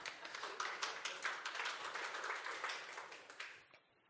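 An audience breaks into steady applause, a dense patter of many hands clapping at an even, moderate loudness for several seconds before it quickly dies away. No one speaks over it.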